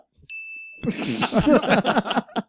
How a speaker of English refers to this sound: I'll make the bell work if that's all you guys. Welcome to Fallout Games. How can I help you? Oh shit! Is that the door noise?